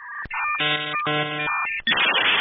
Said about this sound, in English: Although, if I had to make a sound that represented the entire internet, it would sound exactly like this. I didn't grow up with dial-up, but I did grow up in a time where the internet looked completely different.